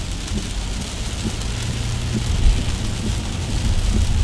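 Heavy rain pours onto a car windshield while driving across the Delaware Bridge, in a dense, steady hiss like static, with a low rumble underneath that swells slightly toward the end. No one speaks.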